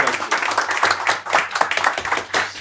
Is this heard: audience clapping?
yes